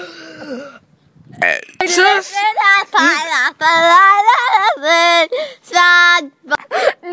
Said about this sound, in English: I'm going to burp my ABCs.